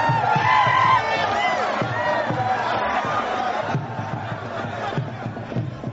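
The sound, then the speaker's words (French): A crowd of supporters cheers loudly at a wrestling match in Niger as double Niger champion Issaka Issaka of Dosso wins against champion Tassiou Sani: many voices shouting and whooping at once. The roar is steady and dense for the whole stretch, with individual yells rising above it. “Après un quart d'heure de lutte très technique, c'est Issaka Issaka qui sortira vainqueur sous les acclamations de ses supporters.”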